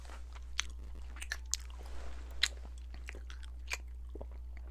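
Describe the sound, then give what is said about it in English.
Crisp crunching of small hard Nerds candy balls being chewed, with sharp irregular cracks every half second or so over a steady low hum; no one speaks. “He's chewing.”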